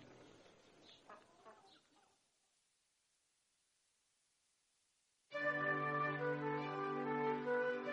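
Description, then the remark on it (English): On a farm, a few soft clucks and rustles, then a pause, and a rooster lets out one long, loud crow that lasts several seconds and runs to the end. “Roosters crow all day long. They say cock-a-doodle-doo.”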